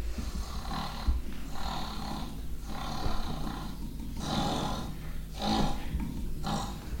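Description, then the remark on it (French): An immense, solitary wild boar sleeping at the back of a cave in the Ventoux snores loudly and steadily, each rasping, grunting breath rolling in about every second and a half, with no voices. “Accueillant, ils autorisèrent un immense sanglier solitaire de dormir au fond de la grotte, même s'il ronflait très fort.”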